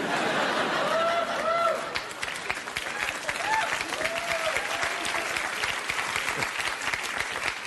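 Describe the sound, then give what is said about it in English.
A crowd applauds steadily for several seconds, a dense, even wash of many hands clapping at a fairly loud level, with a few brief cheers and voices rising over it early on. “Dickish white guys applauding.”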